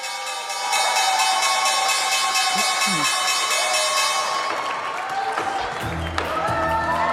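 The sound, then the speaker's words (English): A stock exchange closing bell rings loudly in a rapid, continuous metallic trill for several seconds while a crowd claps and cheers. The ringing fades, leaving applause and scattered voices. “We head toward the closing bell with the Dow up 242 points and the S&P 500 and NASDAQ hitting intraday highs.”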